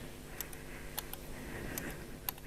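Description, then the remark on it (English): A telegraph key, used to advance presentation slides during a talk, tapped a few times, giving short sharp clicks that come in loose pairs at an irregular pace, fairly quiet over a steady low hum with no talking. “Just for fun, and because it's a bit on theme, I've got two telegraph keys. One makes the slides go forward.”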